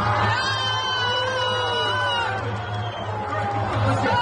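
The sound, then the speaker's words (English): A large crowd of fans in a packed concert arena, the Black Sea Arena in Georgia, boos loudly and without pause as fans leave their seats, many voices blending into long, wavering, drawn-out tones that hold steady for the whole few seconds. “was left looking around at the packed arena in Georgia as fans began booing and leaving their seats.”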